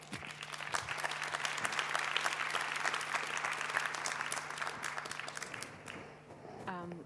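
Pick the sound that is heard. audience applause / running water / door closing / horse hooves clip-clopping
audience applause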